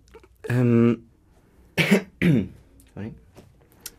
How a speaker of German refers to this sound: Du darfst ruhig räuspern. Räuspern gehört dazu.